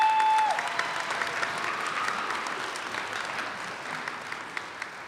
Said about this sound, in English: Let's give her a round of applause for a second.